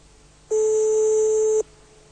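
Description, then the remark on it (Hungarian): A single steady telephone ringing tone sounds on the line for about a second, a clear, even electronic beep heard alone against faint line hiss. “Csörög is.”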